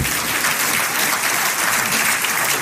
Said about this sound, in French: Alors tous ceux qui veulent être responsables dans ce lieu, applaudissent le conseil de